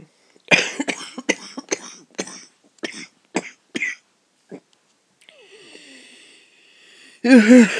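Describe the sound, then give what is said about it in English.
A loud coughing fit: a rapid run of about eight harsh coughs, then a pause with a wheezy, whistling breath before one more strong cough bursts out. “I could do with a cough drop now.”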